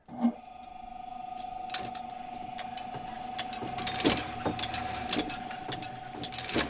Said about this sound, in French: Visiter l'imprimerie plusieurs fois est un vrai cours d'histoire, car le bruit de ces machines, qui fonctionnent depuis plus de 100 ans